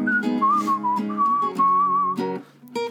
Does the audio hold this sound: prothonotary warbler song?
no